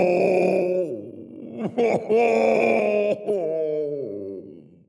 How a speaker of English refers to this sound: Stella and Othello ride deep into the forest. Before long, the two hear a sad howl.